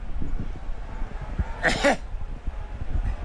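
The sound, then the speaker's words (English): A commentator sneezes once, short and sharp, during a live football game broadcast, standing clearly above a low, rumbling background hum. “Whoa, a little sneeze.”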